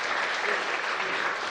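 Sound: audience clapping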